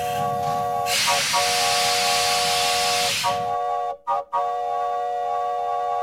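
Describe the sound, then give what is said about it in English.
The whistle of a one-car steam train sounds a steady, multi-toned chord while a loud burst of hissing steam washes over it, then the whistle cuts out twice briefly before resuming. “Doggone, if this ain't the silliest train I ever been on yet.”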